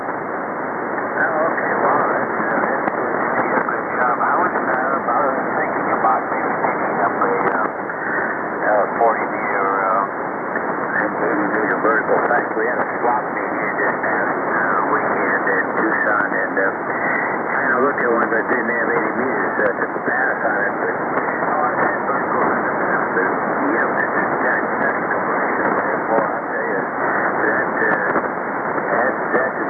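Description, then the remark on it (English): A received amateur radio transmission, picked up on homemade phased vertical antennas of aluminum tubing in Succotash Salt Marsh on the ocean front of Rhode Island's south coast, is band-limited and crackling with steady static; a hard-to-make-out voice holds at a constant level throughout. “A good signal coming through.”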